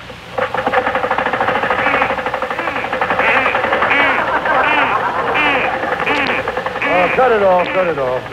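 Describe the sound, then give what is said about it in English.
A car engine cranks and runs roughly, sputtering and knocking in a rapid, uneven rhythm for several seconds, loud, with a wavering whine; it sounds like a voice imitating the engine. “Yeah, start it up again.”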